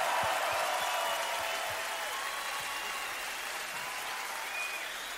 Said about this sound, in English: And I think everybody on the show is super talented. And let's give everybody a big round of applause. Everybody.